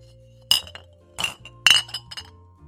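Three sharp, bright clinks ring out as a hot glass piece is cooled on a metal pipe cooler, each with short ringing tails and small rattles between them, over a faint steady background hum.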